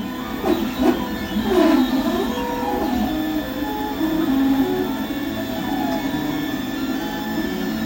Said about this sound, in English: Two 3D printers, boxes slightly bigger than microwaves, are working away.